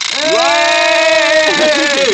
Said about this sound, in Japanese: おい、皆さん、この音分かりますか？クジラの尻尾がパタパタいって前に進みますよ。 引っ張って、ドーナツを引っ張っておいて、 引っ張っておいて、 空中で、 パタパタパタパタ。